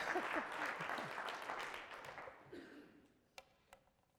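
An audience claps in a dense burst of applause that gradually thins out and fades, ending with a couple of sharp, isolated claps.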